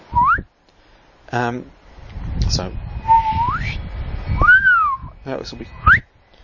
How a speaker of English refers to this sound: At 12:41 Universal Time on the 17th of August 2017, three gravitational wave detectors, isn't that great, three wave detectors, on planet Earth picked up the shockwave. It sounded like a chirp.